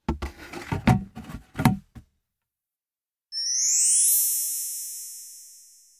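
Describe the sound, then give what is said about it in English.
A rapid series of hollow knocks and clattering bangs as a bin is bumped and handled, then a pause before a bright metallic ring that slowly fades away. “It's a bin.”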